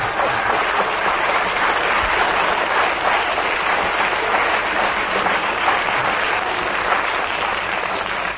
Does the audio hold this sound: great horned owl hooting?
no